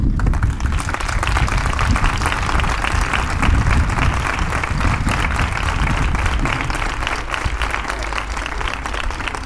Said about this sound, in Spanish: Todos aquellos señores que hay ahí arriba y otros que no han podido venir son los verdaderos protagonistas de este certamen. Por todo ello, os pido un primer y gran aplauso para ellos.